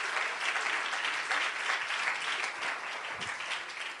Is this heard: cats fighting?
no